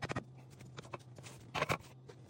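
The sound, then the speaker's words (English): Soft clinks and wet scraping as a spoon scoops batter and taps it off, a few irregular knocks with a louder cluster near the end, over a low steady hum. “You know, this may not have been the best spoon choice. Normally I use a more pointed spoon and then it's easier to transfer it.”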